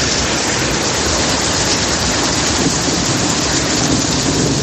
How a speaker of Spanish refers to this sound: El granizo ha vuelto a caer en la capital, tormentas que han dejado estaciones de metro inundadas